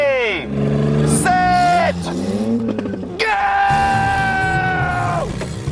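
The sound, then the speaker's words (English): Loud race car engines roar to life at the start of a race between the Miami Gearheads and Canada Junkies teams and rev hard, several overlapping whines climbing and holding in pitch, then dropping away in a continuous burst. “Gentlemen, start your engines!”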